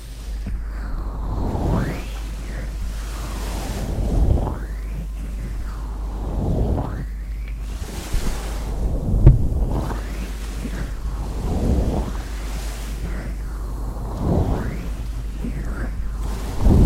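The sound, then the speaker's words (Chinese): Ocean waves roll in and wash out in a steady rhythm, each surge swelling into a broad hiss before receding, with a constant low rumble underneath and no talking. “什么声音啊？是海浪的声音啊！”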